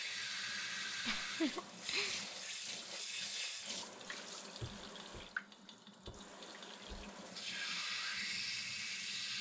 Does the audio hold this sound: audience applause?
no